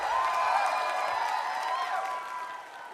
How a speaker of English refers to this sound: And let's give a round of applause for all the amazing DJs that brought it on this stage tonight. Come on!